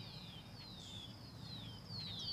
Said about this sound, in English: Can you hear all these birds?